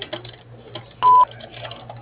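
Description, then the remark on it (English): A single short, loud electronic beep from a tree service office's answering machine signaling the caller to start recording a message, a steady mid-pitched tone lasting about a quarter second, over faint clicks and low hum. “At the sound of the tone, leave your name, phone number, and a brief message, and we'll get back to you as soon as possible.”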